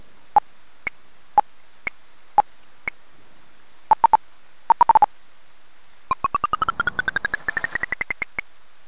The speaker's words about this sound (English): Notifications of events will be given in these two tones to help establish their position on the map.